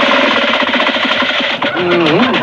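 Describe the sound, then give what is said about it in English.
An old family car motor is started and clatters loudly, a rapid, steady hammering rattle like a trip hammer, with a brief voice-like tonal sound rising over it near the end. “I want you to hear the smooth-running motor. Oh, great motor. I'll start it up.”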